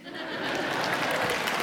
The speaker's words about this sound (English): You missed your cue for clapping.